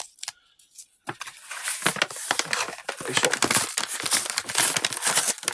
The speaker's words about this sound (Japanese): はい、商品が届きましたので開けて確認していこうと思います。よいしょ。あ、硬い。硬い。え、本当に硬い。